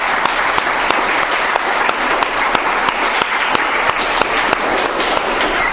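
Sustained audience applause at Kohelet Yeshiva welcoming Senator and Mrs. Lieberman: a dense steady wash of many hands clapping, with sharper individual claps popping out, loud and even throughout with no voices over it.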